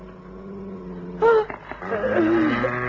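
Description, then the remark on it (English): A dog named Moscow gives a low, steady growl, then lets out one sharp, loud bark, followed by a drawn-out whining yelp, with no talking, at 1 o'clock in the morning. “For that night, it was 1 o'clock in the morning, Moscow began to growl and then to bark.”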